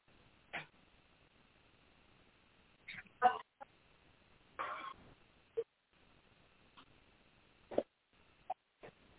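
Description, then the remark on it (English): Dogs bark in short, scattered bursts, a couple doubled up, with irregular pauses between them, muffled against a quiet background, with no talking. “Hello, dog. Yeah, sorry about that. I just don't know what they flipped out about.”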